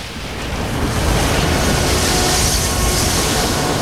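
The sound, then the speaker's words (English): A loud, continuous rush of water roars steadily as a torrential gush is released through a round opening, pouring out in a thick, unbroken stream, with a broad hiss and deep rumble throughout. “A torrential gush of water is released through a round opening.”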